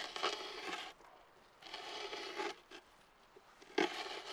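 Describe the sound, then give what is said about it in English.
A hand auger grinds and scrapes into wet wetland muck in three rough bursts with brief pauses between, fairly loud, with no voices, drilling a hole and pulling up cylinders of dark brown, fibrous muck. “Using an auger, a hand tool used for drilling a hole”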